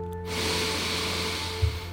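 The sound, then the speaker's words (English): One long, deep breath drawn in as a breathing exercise before a meditation, a steady airy rush that swells quickly and holds for nearly two seconds with no talking. “Before we begin today's meditation, let's practice our breathing by taking in one big, deep, cathartic breath.”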